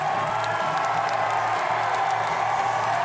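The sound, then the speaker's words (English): A street crowd of demonstrators in Scotland cheers as two men released by authorities emerge from a van, in a steady, continuous roar, with shouts and whoops blending into a dense wash of noise that holds at the same loudness throughout. “Eventually, authorities released the two men, who emerged from the van to the cheers of the crowd.”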